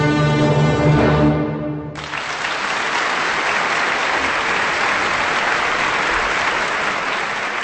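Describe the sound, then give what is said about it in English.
An orchestra's final sustained chord rings out and cuts off, then a large audience breaks into steady, dense applause for the Vienna Philharmonic Orchestra and conductor Claudio Abbado after the overture to Emil von Reznicek's opera Donna Diana, continuing at full strength to the end. “That's some applause for the Vienna Philharmonic Orchestra and its conductor Claudio Abbado there with the overture to an opera by composer Emil von Reznicek of Austria.”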